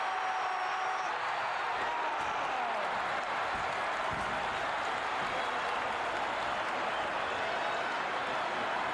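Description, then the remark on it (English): A dense, steady roar of a capacity crowd at a wrestling match between the Sheik and Slaughter, with applause and cheering blending into a continuous wash of noise that holds at full volume for the whole stretch. “Capacity crowd on hand, loving every minute of it.”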